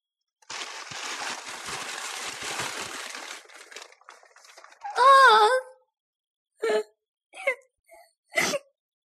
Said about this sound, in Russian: Ну что ты, малыш? Малыш, ну что ты? Ну... Не надо. Ну не плачь. Не плачь.